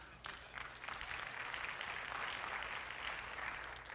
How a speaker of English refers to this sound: Feel free to applause anytime that you're excited about something, okay?